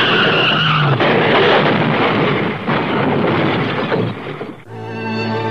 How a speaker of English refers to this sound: I grabbed the wheel and twisted it. The car skidded on gravel and slid sideways toward the cliff.